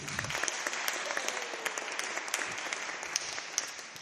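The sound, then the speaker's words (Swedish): An audience at a concert at Sankt Pauli claps steadily for a few seconds after a song by singer Maja Sundell, a dense, even patter of many hands with scattered sharper claps standing out, sustained at a moderate level without voices. “En stor applåd tycker jag till Maja Sundell som har sjungit.”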